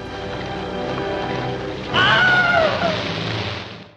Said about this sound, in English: And it had a scene where a man is walking across the Florida Everglades with other soldiers, and he's bitten and dragged underwater by an alligator. And they needed a scream for that.